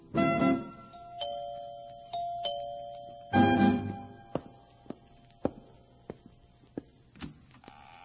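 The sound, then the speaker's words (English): A doorbell chimes its two-tone ding-dong on Halloween, then rings again a few seconds later, each time with ringing tones that fade out, followed by scattered sharp taps like footsteps. “Yeah, we hope it reminds you to have plenty of goodies to hand out when those little freckle-faced goblins ring your doorbell tomorrow night.”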